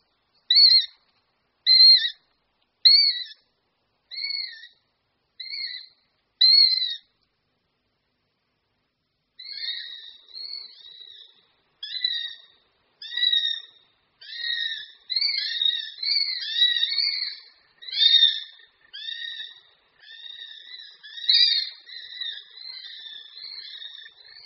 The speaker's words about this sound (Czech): Nejnápadnější jsou ale každopádně hlasové projevy odrostlejších hladových mláďat, ať už na hnízdě, nebo i po jejich vyvedení, kdy mláďata pronásledují rodiče a stále se dožadují další a další potravy.